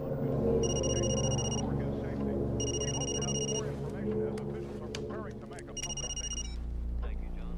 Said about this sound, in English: The phone rings.